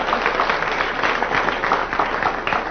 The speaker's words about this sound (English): Worth a round of applause, if anything is.